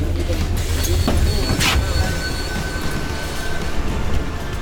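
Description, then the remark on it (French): A bus rumbles with a steady, loud low drone, with a couple of brief hissing bursts and faint whining tones as it slows toward a stop requested by a passenger who lives right there. “Monsieur, est-ce que vous pouvez arrêter le bus, s'il vous plaît? J'habite juste ici.”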